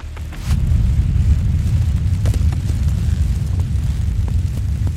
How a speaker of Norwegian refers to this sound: Eksplosjonene jager de paniske turistene ned fra fjellet, og plutselig hører de skarpe smell også rundt der de befinner seg. Det prosjektiler av steiner som kommer flyvende og lander rundt dem.